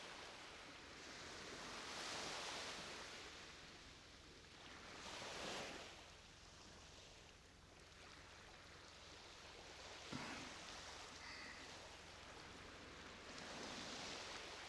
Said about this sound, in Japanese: 気持ちいい音するよね。そう、波の音落ち着くよね。体内音と似てるんだってね、海の音って。